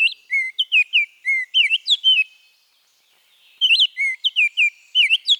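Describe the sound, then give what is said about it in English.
An oriole sings clear, whistled phrases of rising and falling notes, loud and alone. Two rapid bursts of song are separated by a short pause, with no voices present. “The robin's insistent caroling awakens the oriole.”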